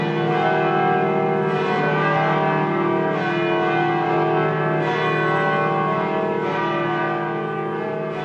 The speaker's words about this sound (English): Those are the church bells at Cathedral Basilica in Denver celebrating the announcement of a new pope this morning.